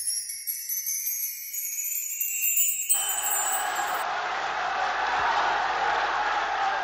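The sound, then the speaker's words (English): A large crowd of prisoners in a Roman prison at Christmas 1958 breaks into loud, sustained cheering and shouting, drowning out Pope John XXIII as he speaks to them behind the bars, preceded by a few seconds of bright, high tinkling that fades as the roar fills the space. “Prisoners cheering, drowning out the voice of Pope John XXIII as he speaks to them behind the bars of a Roman prison.”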